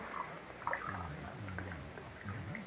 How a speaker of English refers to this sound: Now, I'll pour some eggnog in this glass for you.